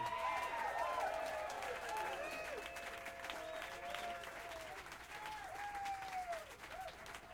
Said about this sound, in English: A warm round of applause, if there is any other kind, for Alfonso Johnson.